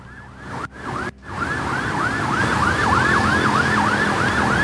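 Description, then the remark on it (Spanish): A fire engine's wailing siren rises and falls in rapid, repeating sweeps, growing louder over a steady low rumble of traffic, with two brief dropouts near the start. “Viene bombero, escuchamos una sirena por ahí.”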